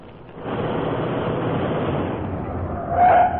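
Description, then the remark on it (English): A steady rumble of a moving car fills the scene, then a short, shrill tire screech rises near the end as the vehicle brakes hard to a stop. “Yeah, stop the car.”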